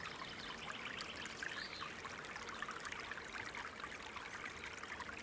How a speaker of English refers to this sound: You feel so excited to be visiting the natural pool. You hear the water stream and finally arrive at the exposed water, surrounded by rocks.